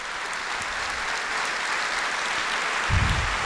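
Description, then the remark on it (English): A large audience of Johnson County residents in an auditorium holding about 1,800 people claps steadily, a dense wash of many hands, sustained for a few seconds with a slight swell near the end. “Let me start by having you clap if you are from Johnson County, this county.”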